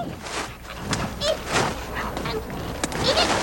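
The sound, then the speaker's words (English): A bear cub called Little Deuce whimpering in a designed film soundtrack effect: brief, thin, whiny cries surfacing a few times over a steady buzzing, hissy background, with no talking. “Here's Little Deuce whimpering.”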